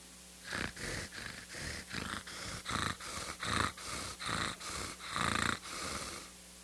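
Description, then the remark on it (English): A voice imitates a cat's purr with a steady run of about ten raspy, rhythmic pulses, moderately loud, with no other talking during the sound. “but he just kind of, you just hear that purring sound.”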